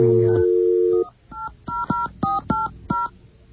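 A steady telephone dial tone cuts off, then a quick series of about half a dozen touch-tone keypad beeps follows as a phone number is dialed, each short and distinct, heard clearly with no talking.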